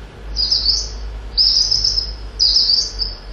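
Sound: mistle thrush song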